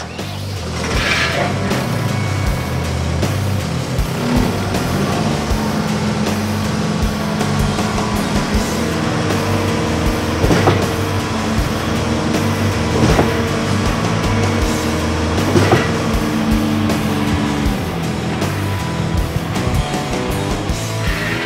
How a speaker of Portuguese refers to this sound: E para você de casa ter uma ideia do controle de qualidade da Schwingstetter, nós vamos ver uma simulação da máquina bombeando e com a água simulando também as mesmas condições do concreto.